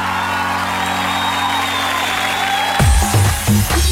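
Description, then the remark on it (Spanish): Steady, dense applause with crowd noise fills the whole clip, and a few low, punchy musical notes break in over it near the end. “Aplausen, aplausen, aplausen.”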